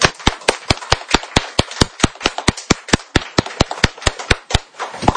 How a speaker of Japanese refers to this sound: 主にあってこの天聖のこの朝露のように主が起こしてくださった予想外の2人、そして主に捧げられて、そしてまだドイツにまで運ばれたこの御言葉をね宣言したこの2人にイエス様に会って拍手したいと思います。